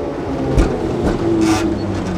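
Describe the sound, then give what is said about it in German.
Trams rumble and rattle along the Ostertor-Steinweg, a busy, louder shopping street in Bremen, a steady low clatter with occasional metallic squeals and bursts of hiss over constant traffic noise. “Wir hören ab und zu die Straßenbahnen rattern und genau.”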